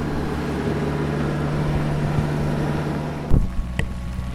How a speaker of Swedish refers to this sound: Nu kommer slamkryparen närmare och närmare vattnet. Och den går på gummihjul som nu har styrts in i vad ser ut som en stor järnvägsräls. Det är spår helt enkelt som den körs ner i. Och nu är hjulen nere i vattnet.